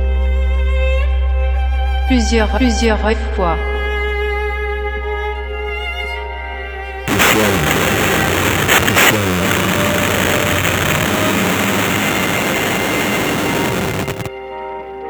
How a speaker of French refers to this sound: J'entends des avertisseurs de camions.